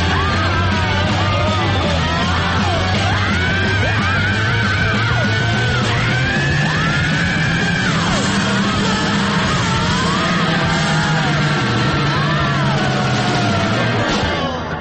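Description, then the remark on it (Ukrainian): Loud, raw, wild yelling from a young man made to shout out his voice while being taught to sing carries on for the whole stretch, voices straining and sliding up and down in pitch over a dense, rumbling background, relentless with no pause. “І я примусив одного хлопця закричати, я бачив, як у його вирвався голос. Це був такий дикий крик.”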